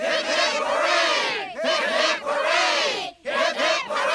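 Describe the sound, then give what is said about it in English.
A crowd of Springfield residents outside the Simpsons' house shouts three loud, ringing hurrahs for Marge Simpson in quick succession, each a sustained roar of many voices with brief dips in between, the last one cut short. “Three cheers for Marge Simpson.”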